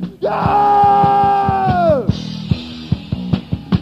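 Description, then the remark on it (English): A crowd cheers and yells in answer to a performer calling for screaming and shouting, led by one loud, long sustained shout that slides down in pitch and breaks off, over broad crowd noise and a steady series of sharp thumps. “Okay, you got one last chance to bring down the house. I said let me hear ya!”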